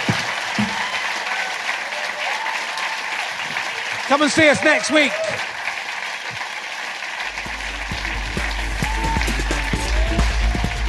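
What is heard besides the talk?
audience round of applause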